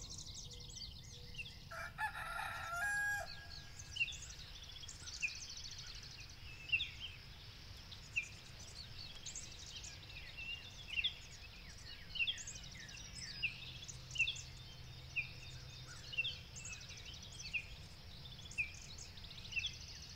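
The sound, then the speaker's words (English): Birds waking up at sunrise in the morning, with many chirps and calls repeating across the scene and a rooster crowing, over a steady low outdoor background hum. “Can you hear the sounds of birds waking up with the sunrise?”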